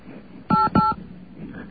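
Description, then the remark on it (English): Two short touch-tone telephone beeps, sent to try to communicate with a caller on the line, in quick succession, each a steady dual-pitched tone lasting about a fifth of a second, sounding loud over a faint background hiss. “I'm getting a touch tone burst.”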